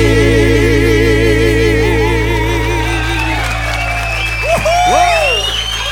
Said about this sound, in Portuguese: Uma salva de palmas, gente. Meninos são demais.